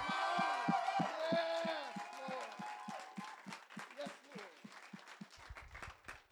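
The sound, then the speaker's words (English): A church audience yells, cheers and shouts praise to God, many voices rising together over scattered clapping, loud at first and gradually thinning out. “So, not to sound weird, but can we just yell and give God a shout of praise for what we just heard?”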